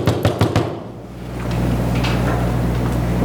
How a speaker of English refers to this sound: And then he gets home. The place looks kind of different. He knocks on the door.